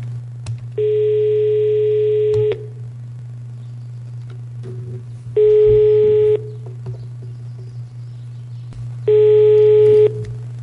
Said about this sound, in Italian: Adesso telefono a una socia che non conosco, che mi hanno segnalato, che vive ad Airolo